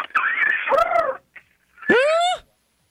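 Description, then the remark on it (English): A voice imitates a cat purring with two rolling, whiny bursts about a second each, separated by a short pause; no words are spoken. “No, like a kitty purring.”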